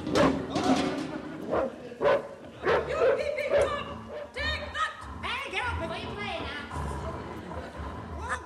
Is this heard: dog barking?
yes